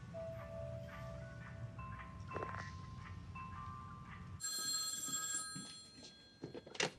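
A telephone rings on a redialed call to reach Hector Salamanca, steady electronic tones over a low background hum, the ringing growing brighter and louder partway through. There is no speech.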